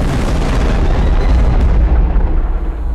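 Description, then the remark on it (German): A loud thunderclap from a huge lightning bolt discharging directly overhead erupts as one heavy, crackling boom and rolls into a deep, sustained rumble that slowly loses its sharper edge over about three seconds, with no voices. “Ein gewaltiger Blitz entlädt sich genau über ihnen.”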